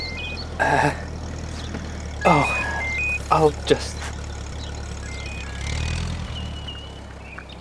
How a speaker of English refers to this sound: Vintage tractor.